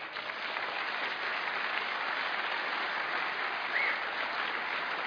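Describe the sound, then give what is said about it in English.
A crowd claps steadily and enthusiastically in thanks to National Science Week, the Centre for Public Christianity and the City Bible Forum, a dense, sustained wash of applause from many hands that holds at an even level throughout, with no one speaking over it. “This would not have been possible without the help and assistance of the National Science Week, the Centre for Public Christianity, and the City Bible Forum, and that is your opportunity to go absolutely wild with applause.”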